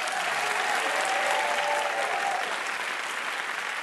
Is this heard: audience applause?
yes